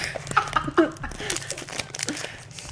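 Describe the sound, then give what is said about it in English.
Crinkling and tearing of a toy's plastic packaging being ripped open, a busy run of sharp rustles and crackles lasting a few seconds at moderate volume. “It's gonna be tough to do this with my nails. I'm gonna have to rip it.”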